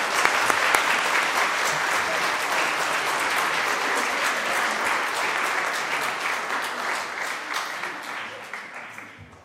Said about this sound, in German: Aber ich denke nochmal einen ganz herzlichen Applaus auch für den Einsatz, den ihr da geleistet habt.